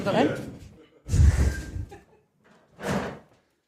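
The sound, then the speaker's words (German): A door opens and swings shut with a heavy thud during a walk-through tour of a house, framed by short bursts of rustling and handling noise before and after. “Machen wir so einen virtuellen Rundgang, die Tür geht wieder auf.”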